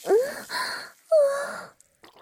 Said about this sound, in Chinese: 女神大人像是做了什么剧烈运动一样疯狂喘气，不过现在也是在做剧烈运动就是了。